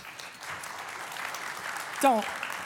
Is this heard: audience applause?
yes